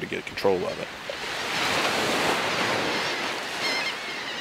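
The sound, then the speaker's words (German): Gentle waves wash onto the sunlit beach at Pascagoula, about 200 kilometres east of the Mississippi Delta, in a steady, soft hiss that swells slightly and then eases, with a brief high call or chirp near the start. “Etwa 200 Kilometer östlich des Mississippi-Deltas spiegelt sich die Sonne auf dem Wasser, das in sanften Wellen an den Strand von Pascagoula schwappt.”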